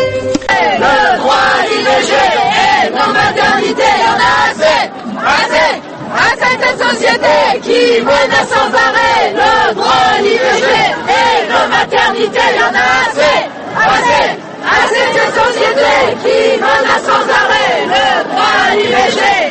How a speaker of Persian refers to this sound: این صدای فریادهای زنان فرانسویه که به زنان جهان یادآوری میکنن که نگه داشتن حقی که پیش از این به دست آوردن چندان هم آسون نیست. صدها تن از زنان فرانسوی روز شنبه به خیابانهای پاریس و چند شهر بزرگ فرانسه اومدن